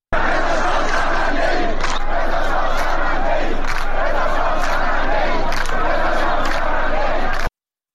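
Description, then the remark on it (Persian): A large crowd of protesters in Izeh county, eastern Khuzestan, chants slogans such as 'Death to Khamenei' in unison, a loud, continuous roar of many voices with rhythmic surges about every second, sustained throughout before cutting off abruptly. “بر اساس ویدیوهای انتشار یافته در شبکه‌های اجتماعی، معترضان در شهرستان ایزه در شرق خوزستان شعار مرگ بر خامنه‌ای سر دادند.”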